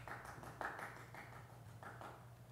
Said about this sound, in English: Not the loudest round of applause, but better than none. I appreciate it.